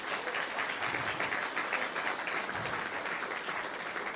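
Sustained audience applause, a dense steady wash of many hands clapping at an even volume throughout, with no voices standing out.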